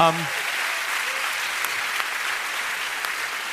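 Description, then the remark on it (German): An audience near Melk Abbey applauds a man steadily, a dense, sustained wash of clapping that holds at an even level throughout, with a brief voice heard right at the start. “bitte einen dicken Applaus für Marv”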